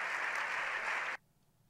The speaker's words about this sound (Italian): No, mannaggia, c'è stato un applauso. Abbiamo fatto solo gli applausi.